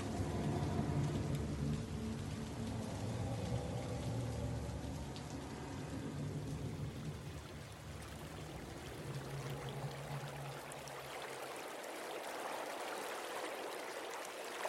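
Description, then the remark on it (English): Steady rain pours down over a loud, rushing river swollen with the rain, a dense continuous wash of water that fills the scene, with a deep low rumble fading out toward the end as the hiss brightens. “The river ran strong and swollen with rain.”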